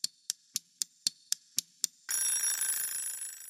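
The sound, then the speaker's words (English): A timer alarm rings, starting with eight quick evenly spaced clicks that swell into a loud, sustained bright ringing, which fades slightly as it continues. No one speaks. The timer signals that five minutes are up. “Stuart, that timer means that the 5 minutes are up.”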